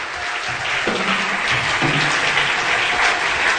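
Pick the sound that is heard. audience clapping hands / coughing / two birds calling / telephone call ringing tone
audience clapping hands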